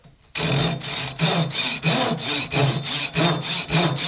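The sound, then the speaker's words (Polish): A hand saw cuts through wood in steady back-and-forth strokes, about nine rasping passes in a quick, even rhythm, fairly loud with no voices, in an instrument maker's workshop where such wood is made into instrument soundposts. “Oczywiście tniemy piłą ręczną.”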